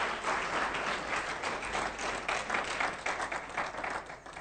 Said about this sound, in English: Well, let these people go back. Let's clap our hands for them as they go back.